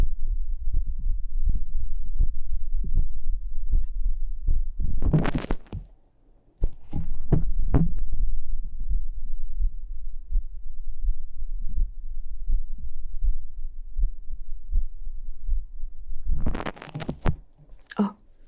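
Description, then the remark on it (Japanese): A steady heartbeat heard through the chest, with something held against the right and then the left breast: deep muffled thumps pulsing in an even rhythm, loud, broken by a few brief scraping bursts of handling noise. “心音が聞こえるかな。”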